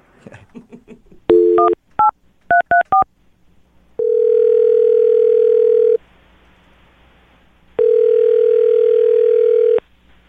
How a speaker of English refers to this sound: All right. I'm going to dial his phone number right now and see if we can get him on the phone, okay?